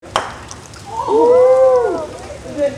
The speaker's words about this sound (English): cheers on a rainy Saturday morning as his sister hits a croquet ball at the state capitol building in Juneau. His family set up the game in a bit of an unconventional spot.